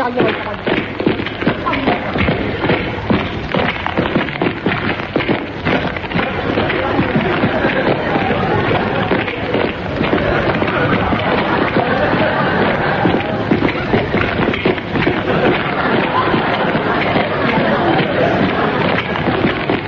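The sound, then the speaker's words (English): A dense, steady clatter of many footsteps, like a crowd walking or running together, loud and continuous throughout with a murmur of voices mixed in. “All day listen to a record of footsteps.”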